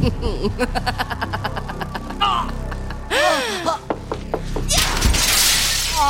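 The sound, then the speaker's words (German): A rapid run of sharp knocks gives way to a loud crash of shattering glass as a woman and a man jump through a glass pane, followed by a second burst of breaking, scattering debris, with strained voices crying out in between. “Sie ist mit dem Manne durch das Glas gesprungen und in der Dunkelheit entschwunden.”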